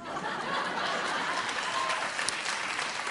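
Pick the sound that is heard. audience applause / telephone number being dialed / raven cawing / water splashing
audience applause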